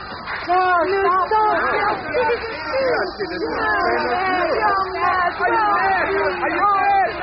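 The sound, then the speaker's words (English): A dense crowd chatters and murmurs in agreement with a speaker ranting against foreigners. Many overlapping voices form a steady, fairly loud babble with no single speaker standing out. “He seems to have a crowd in his hands.”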